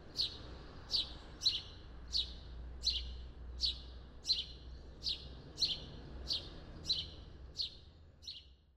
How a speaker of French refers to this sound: Puis, par exemple, vous nous proposiez un extrait de moineau domestique, donc une espèce quand même assez commune au Québec. Puis donc... où on peut entendre un de ces chants discrets.